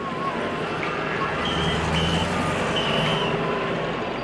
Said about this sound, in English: steers the dusty, olive-green jeep across a paved plaza toward a wide avenue clogged with cars and exhaust fumes.